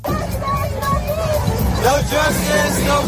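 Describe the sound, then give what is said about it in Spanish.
Hundreds of protesters gathered outside a building clamour continuously against the war in Gaza, carrying Palestinian flags and chanting "no justice, no peace". It is a dense roar of many voices, with raised, drawn-out shouts rising above the steady babble. “Pero es que a la misma hora se estaban concentrando centenares de manifestantes en el exterior del edificio.”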